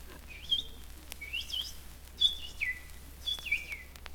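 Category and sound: bird, small birds singing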